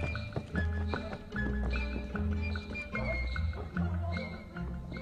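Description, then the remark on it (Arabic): Horse hooves clip-clop in a steady, continuous rhythm at moderate loudness, set against a dense, rumbling low background with no talking. “هيا يا حصان، هيا هيا.”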